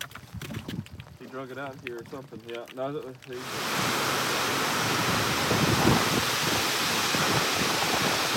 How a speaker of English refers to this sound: So it's raining, but that ain't stopping us. Lightning. We're just taking chances.